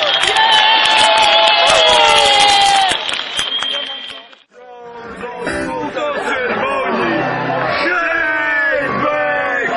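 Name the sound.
audience applause and cheering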